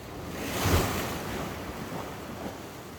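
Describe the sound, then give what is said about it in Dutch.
Sea waves break on the shore, a broad rushing wash that swells early and then settles into a steady surf roar with faint wind. No one speaks. “Luister. En zal de zee jouw energie van je overneem?”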